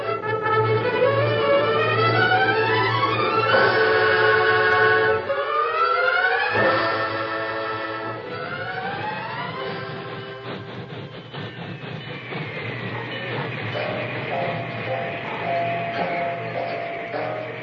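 A train rolls on rails with a steady, heavy low rumble, overlaid by loud wailing tones that rise and sweep repeatedly. The sound is continuous, with no talking.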